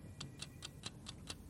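A clock ticks steadily and quickly, about seven even, crisp ticks in under two seconds, fairly quiet, over a low background hum with no voices.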